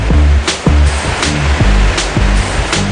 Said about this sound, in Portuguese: Mas se você quer ter uma experiência na Amazônia, sem insetos, com cachoeira e floresta, aqui na região você encontra esse lugar. Na Cachoeira de Iracema, qualquer um, de qualquer idade, pode se divertir.